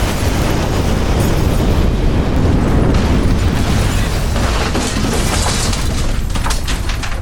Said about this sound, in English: Crash! The tower fell to the ground. Luckily, no one was hurt.